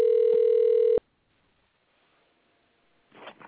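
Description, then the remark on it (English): A single loud, steady ringback tone buzzes for about a second, like an outgoing call ringing on the line, followed by near silence and a brief muffled rustle at the end. “Maybe we should leave him a voicemail.”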